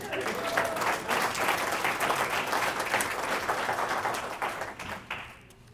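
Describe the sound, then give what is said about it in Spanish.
A crowd applauds steadily, a dense wash of many hands clapping at a fairly loud, even level for several seconds before tapering off quickly at the end. “Un aplauso”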